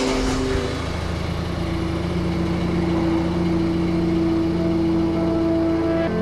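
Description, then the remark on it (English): A car engine idles steadily, a constant low rumble with a droning hum that holds at the same level throughout, with no voices. “He says something unnecessarily cruel, cruel to me, cruel to her, so shocking it's funny, and gets into his car.”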